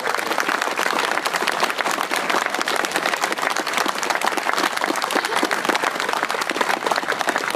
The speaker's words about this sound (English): I'd ask you to give him a big round of applause